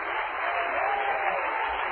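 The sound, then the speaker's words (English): An audience claps their hands together in steady, sustained applause that fills the room, a dense wash of many overlapping claps at an even loudness for the whole moment. “Give him a hand clap, please.”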